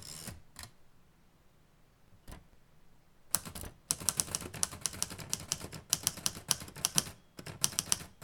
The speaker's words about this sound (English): And I am typing it up, and give this to me in all the colorful detail of how you see it, how it feels, what it's going to look like, who's going to be there.